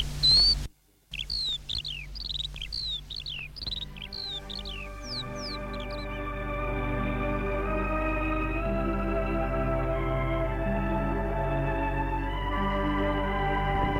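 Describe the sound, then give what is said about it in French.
A quick run of high, bright bird chirps in a garden repeats rapidly for a few seconds, then fades as steady, sustained musical tones swell up and carry on to the end. No one speaks. “Dès l'âge de 6 ans, il se met à courir dans le jardin en cherchant à attraper les oiseaux.”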